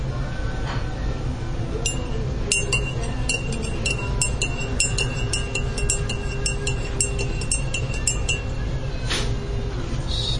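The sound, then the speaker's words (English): A spoon clinks rapidly and repeatedly against the sides of a cup of coffee as creamer is stirred in, bright metallic taps in an uneven stirring rhythm over a low steady background hum. “got that stirred up, I think.”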